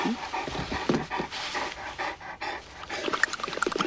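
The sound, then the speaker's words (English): A dog, Hooch, pants rapidly, with a burst of flapping, rattling noise as it shakes itself off vigorously, the skin on its face jiggling, all in continuous rhythmic breaths with no talking. “Hooch shakes vigorously, the skin on his face jiggling.”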